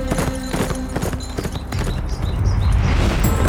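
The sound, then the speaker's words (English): A ridden black horse gallops hard, with quick, loud hoofbeats drumming in a rapid rhythm that blurs into a steady low pounding rumble as the run goes on. No one speaks. “With that, he heeled the black into a run and took off after the hard cases who were pounding toward Abilene.”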